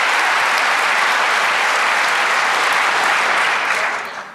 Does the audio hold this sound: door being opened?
no